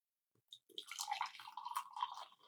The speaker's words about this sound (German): Ja, manchmal blubbert der noch so, wenn man das unterdrückt. Ja, das war French Press Live. Aber das blubbert jetzt schön.